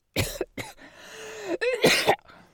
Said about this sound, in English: He coughs, hesitates.